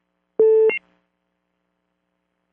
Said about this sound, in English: Now, I heard a beep. Is someone on the line there?